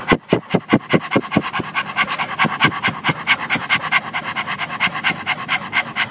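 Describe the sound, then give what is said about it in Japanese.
A person imitates a dog's panting with rapid, rhythmic breathy huffs, starting with sharp separate bursts that quicken into a steady, fast pant lasting several seconds, with no talking. “犬はずっと息を吐いています。横隔膜の運動が激しいんです。こんな感じ。”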